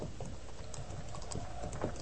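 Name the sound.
horses' hoofbeats approaching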